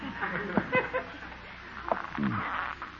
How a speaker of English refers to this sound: Wish this floor wouldn't creak so loud.